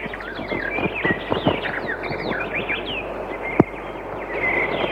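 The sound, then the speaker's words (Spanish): Many birds chirp and sing at once in a park, a busy, continuous chorus over a steady outdoor background hum, with one brief sharp knock partway through. “¿Quién puede negar, a pesar de todo, que el simple y candoroso canto de unos pájaros en un parque puede a veces provocar también sus miedos?”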